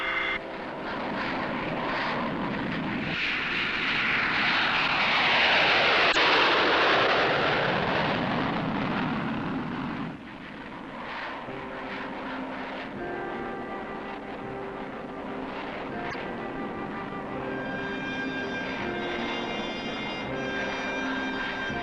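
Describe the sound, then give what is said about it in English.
A military aircraft carrying an Army field hospital unit takes off from McCord Air Force Base in Washington for Anchorage, its engines swelling into a loud roar that sweeps past, then settling into a steady, humming engine drone with a high whine as it moves away. “At McCord Air Force Base in Washington, an Army field hospital unit takes off for Anchorage.”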